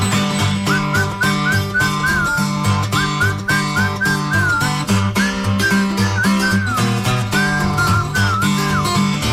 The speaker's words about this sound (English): That's a horse. You ain't calling right. You must whistle when you want your horse to come to you.